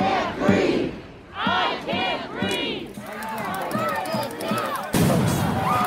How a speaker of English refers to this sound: Thousands demonstrate outside the Colorado State Capitol, chanting a phrase synonymous with young black men dying at the hands of police officers.